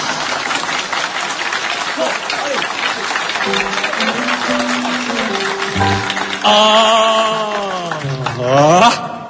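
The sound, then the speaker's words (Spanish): Sustained audience applause at a live concert recorded around 1964, a dense crackling wash of many clapping hands that continues throughout, as sustained musical tones and a rising, swelling instrumental phrase begin underneath toward the end. “Sí, esta grabación es, bueno, van a escuchar unos aplausos así, es una grabación en vivo,”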